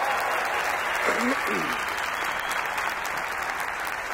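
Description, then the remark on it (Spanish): Sustained audience applause for the Mexica deity Huitzilopochtli, a dense steady patter of many hands clapping at a constant loud level throughout, with a brief vocal whoop or cheer rising out of it early on. “Un aplauso a Huitzilopochtli, por el amor de Dios.”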